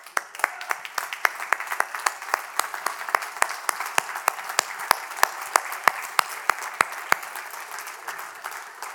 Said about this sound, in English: But guys, if you are married to an amazing woman, you love her with all your heart, and you are just blessed that God sent her to you, I want you to stand up and applaud her right now.